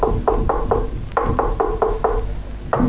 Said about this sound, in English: And he starts off with a knock on the door.